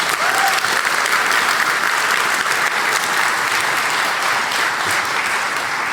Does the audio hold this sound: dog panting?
no